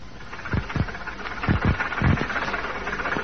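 bus engine running

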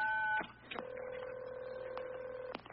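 telephone keypad button tone

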